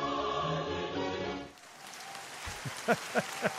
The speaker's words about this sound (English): Can I have a hallelujah and then some applause? Let's go ahead and do it.